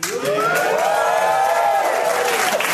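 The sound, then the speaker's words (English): A live show crowd in Sydney, Australia cheers loudly and steadily, with overlapping whoops and rising shouts from many voices for a few seconds. “We get a lot of strange bumps out of the crowd for this show.”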